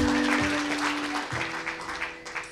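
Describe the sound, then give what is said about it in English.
An audience at a community storytelling event hosted by The Lyric applauds steadily, a dense wash of many hands clapping at an even loudness, with a faint sustained tone humming underneath. “Give another round of applause too for The Lyric for hosting us this evening.”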